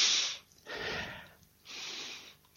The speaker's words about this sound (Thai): ถ้าหายใจแรงๆเนี่ยหายใจแรงๆ 2-3 ครั้งพอถ้าหายใจแรงตลอดเวลาเดี๋ยวจะเหนื่อยพอเหนื่อยแล้วขี้เกียจปฏิบัตินะเรากระตุ้นความรู้สึกตัวเนี่ยหายใจเปลี่ยนจังหวะให้แรงขึ้นนิดหน่อย